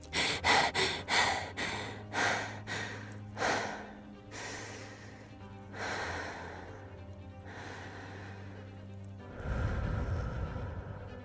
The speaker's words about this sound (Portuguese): Respira, inspira, expira. Eu já tinha entendido na prática o quanto a respiração me acalmava. Eu tinha lido que inspirar e soltar o ar devagar ajudava a oxigenar o cérebro e ativar os neurônios que têm que ser ativados em momentos de tensão.